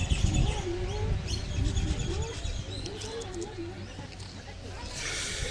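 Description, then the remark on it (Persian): Birds chirp and sing continuously in the background, with quick, bright tweets layered over one another, while a low voice murmurs underneath. “اگر این پرنده ها بذارن، صدای خوشی دارن، آدم دلش نمیستشون قطع کنه.”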